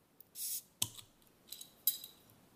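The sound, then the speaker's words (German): A bottle of mate soda being opened: a short airy hiss of escaping gas, then a sharp metallic pop of the cap, followed by a few faint clinks. No one speaks. “Ja, ich mache mal auf.”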